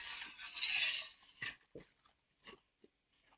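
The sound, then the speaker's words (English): A brief slurping sip of water, then several short crunchy clinks and rattles of nugget ice shifting in a cup, spaced out irregularly and fading quieter toward the end. “I have that good nugget ice and some water.”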